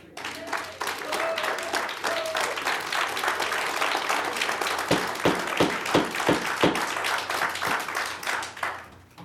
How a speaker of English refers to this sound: If you could please refrain from the applause, I'd appreciate that.